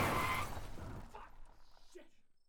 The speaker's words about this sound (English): Then they ran me off the road and my truck crashed straight into a ditch and came to a halt.